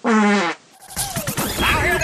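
A loud, buzzy fart with a wavering pitch lasts about half a second, then a brief pause gives way to a jumble of clattering, crashing noise.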